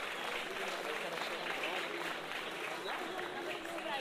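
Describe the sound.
An audience applauds to welcome someone: a dense, steady wash of many hands clapping at once, holding an even level for about four seconds, with faint crowd voices mixed into the noise.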